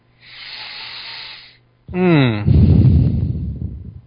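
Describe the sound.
Heavy breathing into a microphone: a long hissy exhale, a brief pause, then a voiced sighing breath that turns into a loud, rough, rushing exhale.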